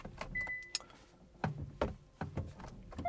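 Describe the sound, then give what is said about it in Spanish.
A motorized garage door that had been left open closes, with a low mechanical hum under a series of sharp clanks and rattles at irregular intervals, moderately loud. “Oh, sí, me han dejado la puerta del garaje abierta. No, se está cerrando.”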